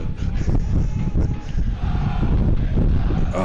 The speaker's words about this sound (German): das wird hier aber mit dem Wind hier immer gewaltig.